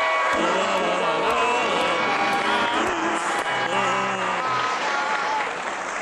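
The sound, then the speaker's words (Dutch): Loud, steady applause from an audience, including supporters from Amsterdam-Noord and Oost-Zaan, dense clapping mixed with cheers and a few whoops and shouted voices rising above it, continuing without a break. “Amsterdam-Noord en Oost-Zaan. Applaus!”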